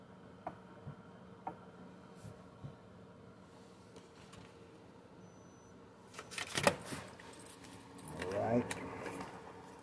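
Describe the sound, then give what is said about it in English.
A bunch of hotel room keys jangles in two short metallic bursts near the end, following a stretch of quiet room tone with a few soft clicks and faint voices in the background. “You want one or two keys?”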